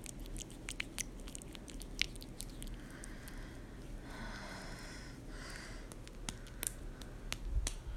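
A spatula end repeatedly tapping between lips makes quick, wet, fleshy smacks in an irregular rhythm, some sharper and louder than others, over a steady low background noise with no talking.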